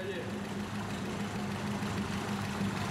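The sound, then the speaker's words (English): A car engine overfilled with oil idles steadily, oil pouring out of its breather, a continuous low droning hum with a constant rumble and no changes in revs throughout. “You even got it pouring out with the engine idling.”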